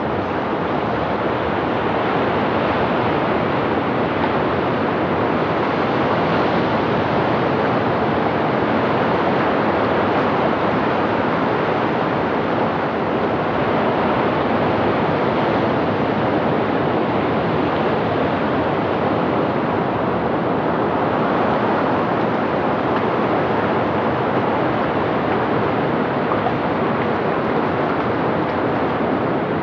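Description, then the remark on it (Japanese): Steady, loud roar of waves washing onto a raised sandy beach on the north side of a rebuilt harbor, a continuous wash of surf with gentle swells in intensity and no voices throughout. “あれから10年、すっかり新しくなった港の北側にある小高い砂浜の上には、犬を連れて散歩をしている人や、竿を持った釣り人、海を眺めに来た人など、たくさん歩いています。”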